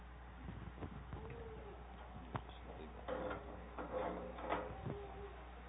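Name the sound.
air conditioner running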